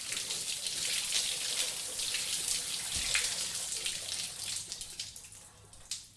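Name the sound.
shower water running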